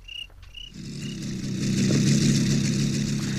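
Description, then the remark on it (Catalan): A few cricket chirps sound at first as night falls, then a motorcycle engine rumbles in and revs up as it is ridden along a road with many bends, growing louder and closer until it drowns out everything else. “L'Andreu va en moto per una carretera amb molts revolts.”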